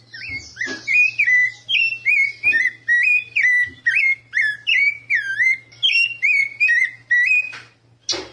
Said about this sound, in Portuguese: Esse é o sabiá, uma espécie bem comum no Brasil todo e é um pássaro que pode ser encontrado no Parque do Ingá.